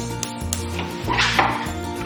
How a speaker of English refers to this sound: We're just going to turn on the gas.